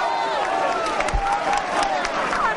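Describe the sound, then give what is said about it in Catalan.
A large crowd in a town square applauds steadily while a human-tower team shouts and cheers over it, creating a dense, continuous roar of clapping and raised voices. “Aquests aplaudiments són els de la plaça i els crits són els de la colla.”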